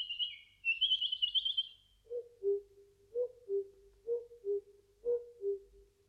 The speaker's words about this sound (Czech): V lese bylo ticho, jen ptáci zpívali.